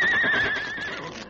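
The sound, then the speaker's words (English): A horse tied up in a barn stall at night lets out a single shrill, wavering whinny, strong at first and slowly tapering off, with a faint shuffling rustle underneath. “There's your horse tied up in that stall.”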